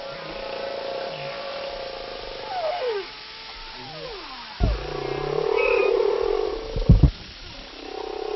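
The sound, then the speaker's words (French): Whale sounds: low, rumbling grunts from a mother mixed with short, higher beeps from a calf, plus a few sliding tonal calls and sharp knocks near the end. “Et dans l'enregistrement, là, quand vous écoutez, il y a des petits bip, bip, des trucs un petit peu courts, un petit peu haut de fréquence”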